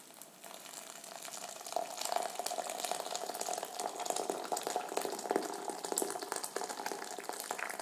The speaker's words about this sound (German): Nimmst etwas Tee in die Teekanne. Und währenddessen kocht jetzt das Wasser und du schüttest den Tee auf.